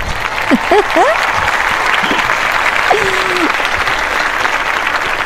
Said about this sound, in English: Yeah, well, I tell you, that's a lot of noise. I presume that was adulation and clapping and everything.